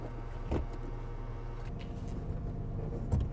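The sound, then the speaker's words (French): A low, steady car-interior hum runs throughout, broken by a couple of short mechanical clunks as the handbrake is released on a start-stop car set to Drive (D) and the vehicle begins to roll. “Et là, j'enlève le frein à main.”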